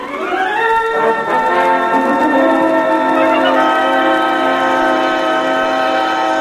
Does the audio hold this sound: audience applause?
no